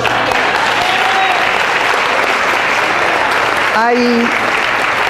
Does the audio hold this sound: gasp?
no